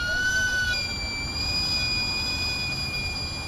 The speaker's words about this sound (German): Das durchdringende Pfeifen, wenn der Verkäufer den heißen Dampf aus seinem Wägelchen entweichen lässt, ist ein akustisches Werbesignal für Camotes. Butterweiche Süßkartoffeln, ein billiger und nahrhafter Snack.